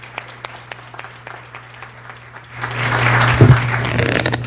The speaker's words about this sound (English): Good job. Good job. Let's give everybody a round of applause that entered the poster contest that are here.